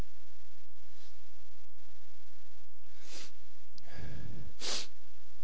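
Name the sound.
man blowing his nose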